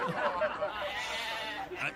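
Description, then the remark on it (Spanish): Goats bleat in wavering, quavering cries that run together for a couple of seconds, fairly soft, out in the countryside on a fine afternoon. “¿A las cabras para allá?”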